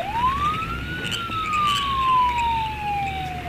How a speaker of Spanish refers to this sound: Es cerca de la una de la madrugada. Los bayameses duermen acompañados del ruido de sirenas y carros policiales.